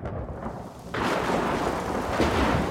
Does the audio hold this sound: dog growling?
no